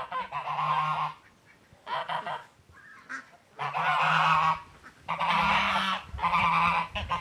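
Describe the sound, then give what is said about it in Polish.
Farm geese honk loudly in several long, raucous bursts of harsh, nasal calls, separated by brief quieter pauses, with no one speaking. “I to, że jak gęsi Rzym uratowały, to uważam, że gęsi uratowały nieraz moje gospodarstwo.”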